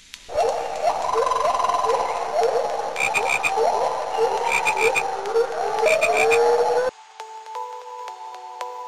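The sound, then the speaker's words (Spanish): A dense chorus of frogs croaking continuously, with repeated rising calls layered over one another, stopping abruptly near the end to leave a soft, sustained tone. “Un grupo de ranas viajaba por el bosque”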